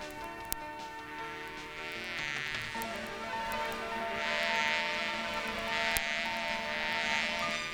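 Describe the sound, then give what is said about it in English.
A black fly buzzes continuously, its drone wavering in pitch and swelling louder toward the second half, with no voices present. “Old Black Fly's done buzzing around. Buzzing around, buzzing around.”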